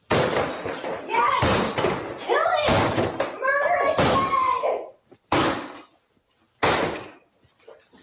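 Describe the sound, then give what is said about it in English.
Crockery being smashed by two feminist attorneys and reporters while reading anti-woman material: a rapid series of loud crashes with ringing, shattering overtones, then two more separate crashes after brief pauses. “both feminist attorneys and reporters who went a little wild and smashed up a lot of crockery while reading some of the most egregious anti-woman stuff”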